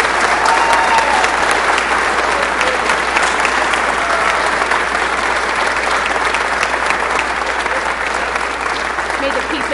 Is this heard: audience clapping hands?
yes